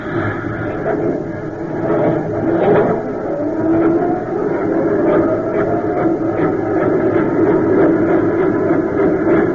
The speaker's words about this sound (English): Forms locked, yes, sir. Then let your steam presses roll.